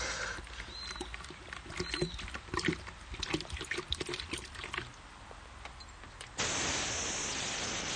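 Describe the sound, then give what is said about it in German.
A man pours gasoline from a canister over car wrecks left in a street, the liquid splashing in uneven sloshing bursts, before a sudden loud, steady rushing noise takes over for the last couple of seconds. “Er gießt das Benzin drüber.”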